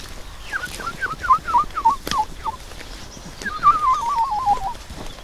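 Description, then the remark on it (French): A voice imitates the song of a woodlark, a small lark: a run of about eight short, falling fluty notes, then a longer quavering, warbling trill, with no talking over it. “Là, ce qu'on entend au-dessus, c'est une alouette Lulu, c'est une petite alouette très mignonne, mais je sais pas si elle chante en vol, elle est au-dessus de nous, mais comme elle est loin, on la voit pas.”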